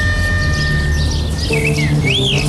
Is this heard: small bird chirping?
yes